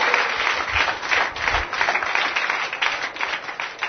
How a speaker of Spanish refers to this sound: ¿Cuántos dicen amén? Un aplauso para Dios y las mujeres de calidad.